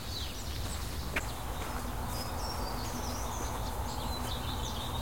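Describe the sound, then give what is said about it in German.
Tits give agitated alarm calls, set off by a chattering jay, a scattering of short, high, scolding notes repeated irregularly, faint against a steady outdoor hiss, with no one speaking. “Die Meisen regen sich auf.”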